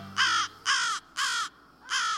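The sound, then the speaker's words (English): American crows caw four times in a steady, evenly spaced series as they fly overhead in the late afternoon toward their night roost, each call harsh and loud, with short pauses between them and no other sounds around. “American crows stream by overhead in the late afternoon.”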